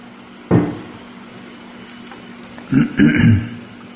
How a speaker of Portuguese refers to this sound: Deixa eu tomar água